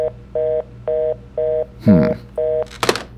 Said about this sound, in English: Smith picked up the blue contact phone. Without looking at the old-fashioned dial, he quickly entered Remo's number.